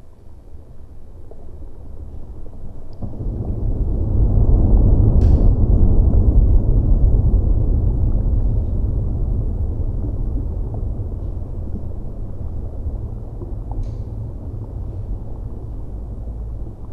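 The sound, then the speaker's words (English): Underwater soundscape from a hydrophone: a steady, muffled low rumble and wash that swells in the middle and eases off, with a couple of faint sharp clicks. No voices. “And with this equipment that I was using, I could dive below the surface and listen to that world underneath the water, which sounded like this.”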